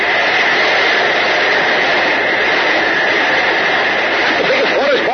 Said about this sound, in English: But while Betty and Billy and Mr. Coven were locking them in the forecastle, Jack and Uncle Jim discovered the menacing water spout. Listen.